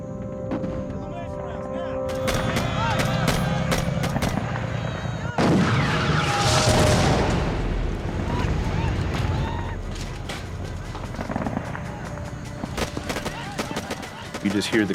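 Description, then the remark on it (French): Gunfire, cannon fire and explosions crack and boom repeatedly in a dense, chaotic barrage during an attack on the camp near the Old Lang Vey outpost, with sharp shots layered over heavy blasts and a rumbling background, loud throughout. “On entendait les cris de douleur des soldats, enterrés aussitôt par le bruit des canons et des déflagrations.”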